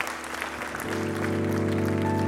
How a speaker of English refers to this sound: In Jesus' name, amen. Applaud the Lord. Thank you for his goodness.